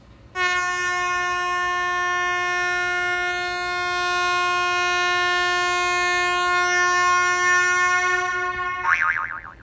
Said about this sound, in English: Give me a honk to that.